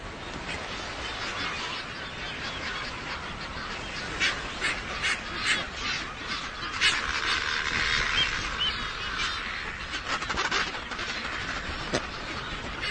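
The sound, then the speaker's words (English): A dense, unbroken din of thousands of birds, including frigate birds, red-footed boobies and Caspian terns, calling over one another in a crowded colony in the centre of Rain Island, a sand cay on the reef: harsh squawks and honks overlapping with no pauses. “It's home to thousands of birds, and in the centre of the island, they jostle for the best available space.”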